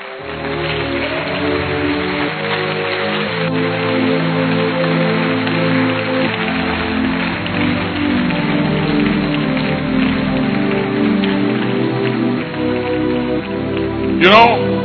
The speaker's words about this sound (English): Are you clapping?